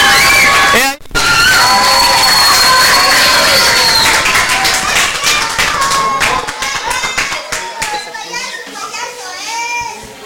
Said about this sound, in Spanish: que se escuchen los aplausos más fuertes para que él salga emocionado.